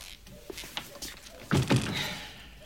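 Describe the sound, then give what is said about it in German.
A door from a kitchen to the hallway swings shut with a muffled double thud, preceded by a few faint clicks and light shuffling, then a brief soft rustle as the sound fades. “Sie schließt die Tür zur Diele.”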